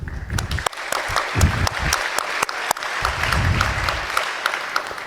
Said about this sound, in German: Und jetzt bitte an Sascha und Gordon nochmal ein ganz kleiner Applaus.